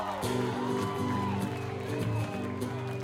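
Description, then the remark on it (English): A crowd cheers and whoops loudly and steadily for a few seconds, with scattered shouts rising over a sustained, droning tonal backdrop. “Somebody make some motherfucking noise”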